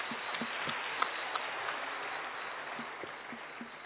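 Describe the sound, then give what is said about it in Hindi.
Steady audience applause welcoming a doctor as speaker at a gathering, a dense wash of many hands clapping that holds at an even, moderate level for several seconds, with a few sharper individual claps standing out. “हाँ जी, जोर से ताली बजाए के स्वागत कीजिए।”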